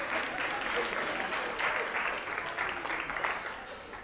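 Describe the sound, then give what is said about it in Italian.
A crowd claps steadily for about four seconds, a dense, even patter of many hands at a moderately loud level with no voices standing out. “Un applauso, trovo.”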